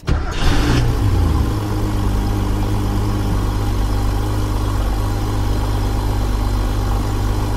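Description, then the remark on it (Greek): An air-cooled Porsche engine cranks and catches with a short burst, then settles into a steady, loud, throbbing idle with no one talking. “Αερόψυκτος κινητήρας. Αερόψυκτος.”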